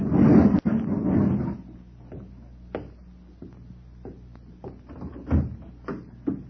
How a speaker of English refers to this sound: He went back to close the garage door, and I sat in the car, trembling.